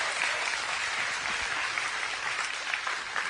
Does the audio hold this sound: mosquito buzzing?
no